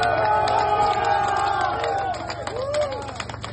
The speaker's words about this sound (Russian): Покинувшего Ростов-на-Дону Пригожина жители провожали аплодисментами.